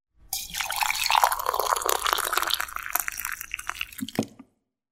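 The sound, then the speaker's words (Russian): Liquid pours steadily into a narrow-necked jug for about four seconds, a bright gurgling rush with splashy drips that rises slightly in pitch as the vessel fills, ending with a couple of soft clunks. “В кувшин налил с узким горлышком.”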